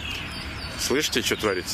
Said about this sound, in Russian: Я надеюсь, вы слышите, как поют птички. Вот они все в кроне этого музыкального дерева. Так их не видать, но вот звуки оттуда идут.